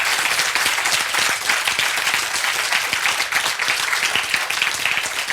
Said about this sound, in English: Please, a warm applause. Yay.